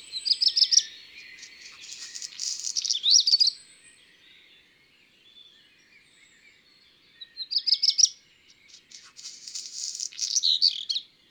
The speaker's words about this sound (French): Le rouge-queue-noir et son chant très typique.